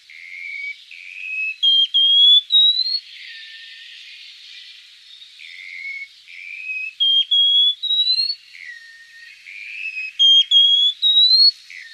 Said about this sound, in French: Un très bel oiseau qu'on appelle l'oiseau papillon. Le Tichodrome échelette, que l'on trouve vraiment dans les falaises verticales, où il s'accroche avec ses griffes